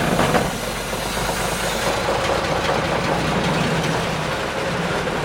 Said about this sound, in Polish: Ja pamiętam z dzieciństwa, że to zawsze były najlepsze miejsca. Przy silniku, bo ten silnik bardzo głośno pracował i burczał. I dla dzieciaków to była wielka frajda właśnie, żeby usiąść tutaj z samego przodu przy silniku.